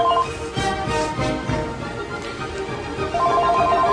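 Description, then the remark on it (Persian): A phone ringtone for an incoming call chirps in quick repeated bursts, mostly at the start and end, half-buried under very loud music. Someone picks up the phone and looks at the caller's number. No one speaks. “گوشی تلفن رو برمیداره، نگاهی به شماره تماس گیرنده میکنه.”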